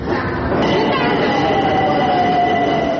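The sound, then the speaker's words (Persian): A subway train rumbles steadily through a metro station, loud, with a high metallic whine sliding slowly downward over the constant roar of wheels on track. “در مترو کودکان دستفروش هم کم نیستند.”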